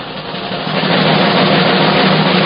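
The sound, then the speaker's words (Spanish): A sustained drum roll rattles steadily on its own, swelling slightly in loudness over a couple of seconds with a dense, continuous buzz of rapid strokes and no voices. “A ver, un redoble, por favor, esta nueva sección en esta nueva temporada en Planeta Duna.”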